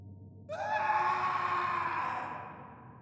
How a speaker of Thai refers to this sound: และตอนนั้นเองเขาได้ยินเสียงร้องตะโกนดังมาจากห้องของผู้เป็นพ่อ